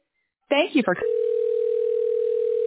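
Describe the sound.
A short burst of speech gives way to a steady telephone tone as a call to CLA is put through to reception, one unbroken mid-pitched hum that holds evenly at the same loudness until the end.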